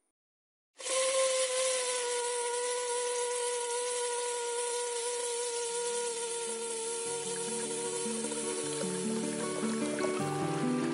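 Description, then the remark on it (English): Water rushes loudly through pipes with air pockets gurgling and shifting in pitch, starting abruptly and continuing steadily for about ten seconds with lower knocking burbles toward the end; no voices. “Air pockets in the water pipes.”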